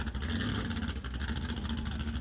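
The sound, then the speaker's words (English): An old-fashioned, old-style lake hot boat with jet propulsion runs loud and steady, a deep continuous roar with a constant low rumble and no pauses. “That's the good old-fashioned lake jet boat right there, ladies and gentlemen.”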